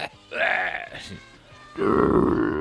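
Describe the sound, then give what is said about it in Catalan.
A voice imitates Darth Vader's heavy, masked-helmet breathing: two long, rasping breaths separated by a brief pause, the second louder and more gravelly than the first. “Si respires així...”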